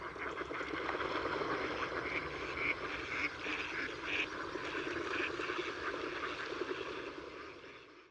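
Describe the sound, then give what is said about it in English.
A crowd of mallard ducks, a wintering species, quacking in Cabañeros Park in a dense, overlapping chorus, steady and fairly loud for several seconds before tapering off at the end, with no voices present. “The mallard and the northern lapwing are two wintering species which live in Cabañeros Park throughout the year.”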